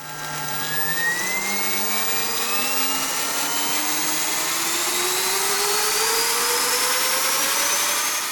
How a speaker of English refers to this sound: It certainly sounds, at least for an electric bike, quite loud.